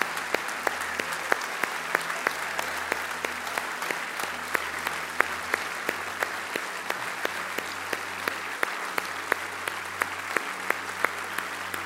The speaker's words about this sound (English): I'm just going to invite you to stand right now, and we're going to applaud you because I'm going to tell you that we love you, and I'm going to pray a prayer of blessing over you.